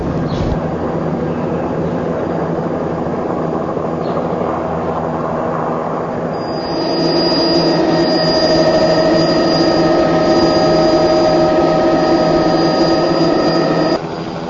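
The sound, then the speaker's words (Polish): A helicopter engine and rotor run loud, a steady mechanical roar that swells partway through as a high turbine whine rises and holds, with no voices. “Prawdopodobnie musi to się mówić helikopter.”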